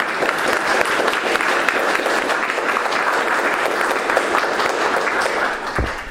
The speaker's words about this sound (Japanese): 先生に対してもう一度盛大な拍手をお願いします。